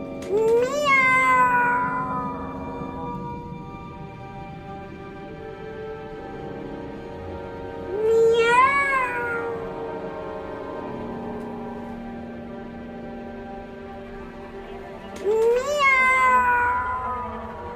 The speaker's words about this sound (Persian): این چیه؟ بچه گربه. بچه گربه.